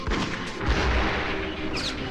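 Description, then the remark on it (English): Loud, dense gunfire rattles on without a break, shots blurring into a continuous booming roar, with a brief bright metallic ring near the end and no voices. “And one because I have ammo left.”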